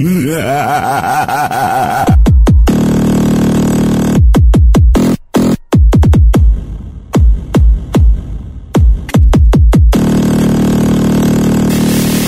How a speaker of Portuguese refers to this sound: Caminhão treme terra.